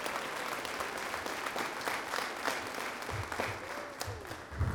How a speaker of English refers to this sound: Can we get a round of applause for our families here?